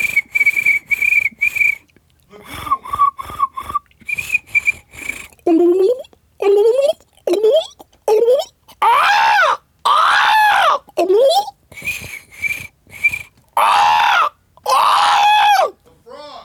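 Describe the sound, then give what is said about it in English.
A voice mimics swamp creatures: a run of short, high, steady whistled chirps, then sweeping whoops and croaky, rising calls in rhythmic bursts, loud and lively, with a brief spoken word at the start. “Sound effect drive is out, so make some, try to make some noise of like swamp stuff.”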